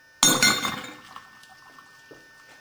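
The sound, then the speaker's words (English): Microwave-superheated water with a little oil on top erupts violently inside a glass vessel when a fork is thrown in, a sharp splashing burst with a bright glassy clink that rings and fades into faint bubbling within a second or two. “Boom. So that loosens most of our liquid up.”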